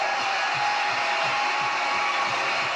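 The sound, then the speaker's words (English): A crowd cheers in a dense, steady roar that holds at an even loudness for about three seconds, with no single voice standing out. “Listen to the cheer.”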